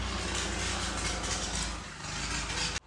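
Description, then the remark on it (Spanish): A neighbour's rough old motorcycle, with its fender falling off, rumbles steadily in a continuous loud drone that dips briefly before cutting off abruptly at the end, with no voices. “Yo le doy gracias al Señor por el vecino que no tiene otra cosa de andar en motos que se están cayendo el guardafango.”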